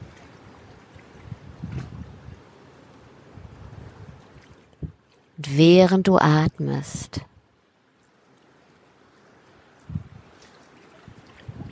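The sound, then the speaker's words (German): A steady wash of wind and rolling ocean waves fills the background at a soft, even level, with a voice speaking briefly over it partway through. “dem Wind lauscht, dem Ozean lauscht, spürst du jetzt deine wahre Größe.”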